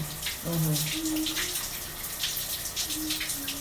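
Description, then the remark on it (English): Shower water runs in a steady hiss throughout, while a woman in the shower sings a few wordless, echoing notes over the spray. “Because that place of letting the voice echo, the reverb, the shower reverb.”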